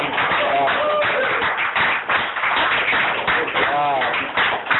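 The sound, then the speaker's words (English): A crowd at a meeting claps steadily for about five seconds for a speaker who has just finished sharing, a dense patter of many hands with a few voices calling out over it. “Let's give another hand of applause.”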